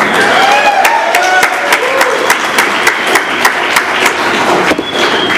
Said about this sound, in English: Cheer one more time